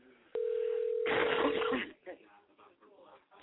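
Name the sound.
telephone dial tone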